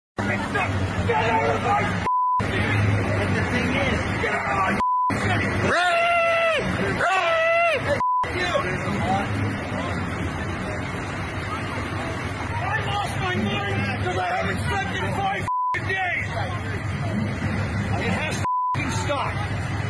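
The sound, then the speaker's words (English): Loud, sustained truck horn blasts from the Freedom Convoy, truckers protesting COVID mandates in Canada, blare over a constant crowd hubbub, with several long overlapping honks in the middle and short electronic beeps recurring every few seconds. “The honking will continue until freedom improves.”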